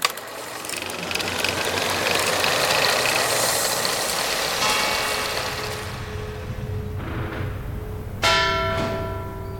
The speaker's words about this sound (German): Hildegard lauscht auf das Geläut der kleinen Totenglocke, das Schwester Gertrud im winzigen Glockenturm der Klause mit kräftigen Zügen am Seil ertönen lässt.